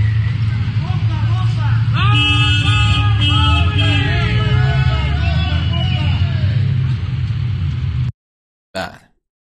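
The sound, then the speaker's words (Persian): Several car horns blare and overlap for a few seconds over a steady rumble of street traffic during a street protest in Sanandaj, where people are being encouraged to honk, with a noisy crowd shouting; the scene cuts off abruptly near the end. “بعد به مردم رو تشویق میکنن به بوق زدن.”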